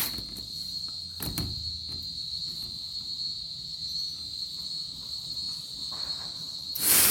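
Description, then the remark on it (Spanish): Cicadas buzz at 11:30 in the morning, near midday, on 30 September 2019, in a steady, shrill, unbroken drone that holds for the whole stretch, with a soft knock early on and a brief rush of noise near the end. No one speaks. “Por eso las chicharras, ahí van.”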